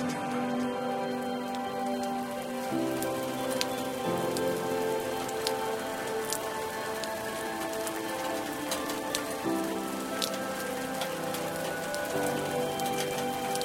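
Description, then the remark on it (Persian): Steady rain patters on a hard surface on a summer morning, a dense wash of droplets with sharp individual drips ticking through, while a soft low musical drone hums underneath throughout. “اون صبح که از خونه بیرون زدم باران می اومد.”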